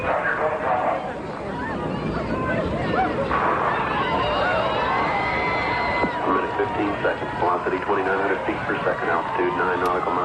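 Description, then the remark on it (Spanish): Family members scream and cry in distress at the moment of the Space Shuttle Challenger explosion, many overlapping voices wailing and shouting loudly and continuously, with anguished cries rising and falling throughout. “Se escucha de fondo los gritos y los llantos de los familiares.”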